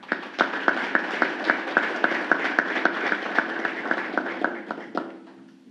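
An audience applauds steadily at a tribute session of the Araguari Municipal Chamber (Câmara Municipal de Araguari) in Brazil, a dense wash of clapping with a quick, regular beat of sharper claps running through it, fading out near the end into a low hum.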